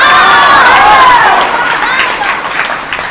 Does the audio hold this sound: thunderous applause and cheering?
yes